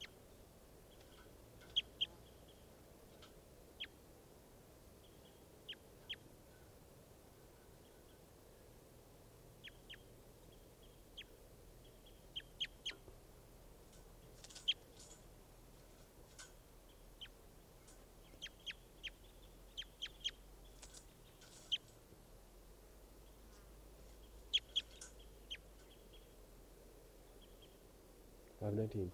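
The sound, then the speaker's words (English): A bird, recorded as bird 515, gives short, high-pitched chirps at irregular intervals, some in quick clusters and others spaced apart, over a steady low hum. “So recording bird 515.”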